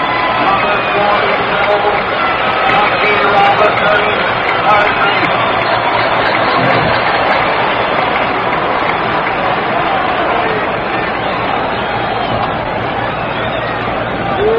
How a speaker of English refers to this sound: Jackie Robinson gets around for applause.